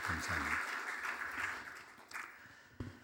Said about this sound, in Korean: 박수 한번 해주시면 감사하겠습니다.